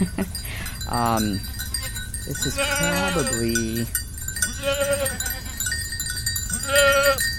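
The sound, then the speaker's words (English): Several goats bleat in a loose, repeated series of wavering calls while bells clink and tinkle steadily in the background; a person briefly speaks over the herd. “Herd of goats and bells.”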